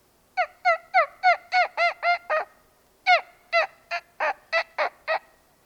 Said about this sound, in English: And you might see or hear a turkey, depending on what time of the year it was.